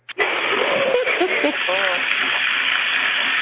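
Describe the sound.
A steady rush of running tap water starts abruptly and continues at an even level, with brief murmured voices partly heard over it near the start.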